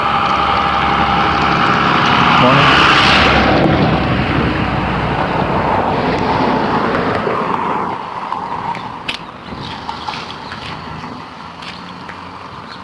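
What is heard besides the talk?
school bus engine idling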